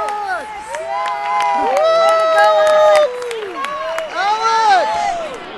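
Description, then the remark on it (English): A loud crowd screams and cheers at a nurse practitioner graduation ceremony in California in spring 2017, many overlapping voices rising and falling continuously as they scream a graduate's name, with scattered clapping and excited shouts. “Did you hear us screaming your name?”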